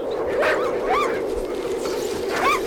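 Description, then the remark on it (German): Several sled dogs yelp and whine in short, rising cries, a few bursts spread over a couple of seconds against a steady windy hiss, in the dark with rising wind and falling snow. “Die Hunde ahnten den Weg eher, als dass sie ihn sehen konnten.”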